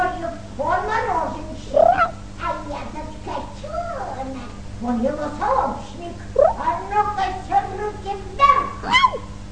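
A kitten meows again and again in quick, thin, whiny cries, rising and falling in pitch. The calls come close together over a steady low hum.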